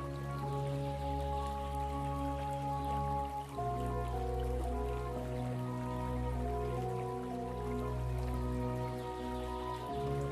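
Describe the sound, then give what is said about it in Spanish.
Clear river water flows past a grassy riverbank in a steady, even rush that fills the whole clip, with soft sustained tones droning underneath and shifting once partway through. No one speaks. “Sientes que tus pies se hunden ligeramente en el césped blando de la orilla del río.”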